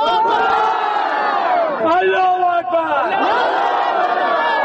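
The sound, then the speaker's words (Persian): A large crowd of residents of Jabal Saraj district, Parwan province, chants slogans against Parwan provincial government officials in unison during a Saturday demonstration and march over an inactive power plant, many voices rising and falling together in loud, rhythmic shouts that continue without pause throughout. “این مظاهره کنندگان بر روز شنبه علاوه بر راهپیمایی بر ضد مقامات حکومتی ولایت پروان شعار می دادند.”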